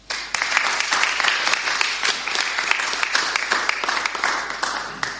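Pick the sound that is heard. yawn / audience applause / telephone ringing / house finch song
audience applause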